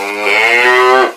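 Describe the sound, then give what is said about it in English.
A single loud cow moo, one sustained, rich lowing call about a second long that swells slightly and then cuts off, with no talking. “You're watching KCOW, KCOW, all cow, all the time.”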